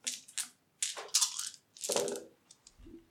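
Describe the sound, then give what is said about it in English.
A handful of eight dice rattles and clatters in quick bursts, fairly loud, with hard plastic clicks tumbling together before settling, rolled for a technology roll. No one speaks. “technology roll, I mean. I got 8 dice then.”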